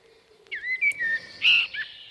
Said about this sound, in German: Vor Sonnenuntergang geben die Amseln gerne ein Solo.